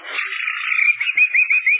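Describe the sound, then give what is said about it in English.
A man imitates a bird call: a steady, high warbling trill that breaks into a quick run of rhythmic chirping pulses toward the end, heard on its own without talk. “I did bird imitations.”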